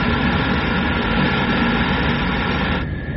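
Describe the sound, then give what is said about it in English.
A steady, loud jet roar, a 9/10 braking burst from a spacecraft's jets, rushes on for nearly three seconds before its hissing upper edge drops away, leaving a lower rumble. No voices are heard. “We can use the jets as brakes now.”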